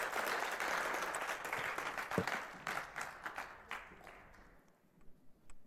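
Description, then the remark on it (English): A church audience applauds a group of people who serve as they go off, with dense, steady clapping that gradually thins out and fades over several seconds, leaving a few scattered claps at the end. “Let's give them a little round of applause again as they go off.”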